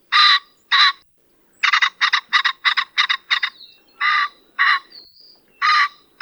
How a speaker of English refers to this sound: The song of the common pheasant is a distinctive two-note cock-er that's only sung by the males and isn't nearly as impressive as their plumage.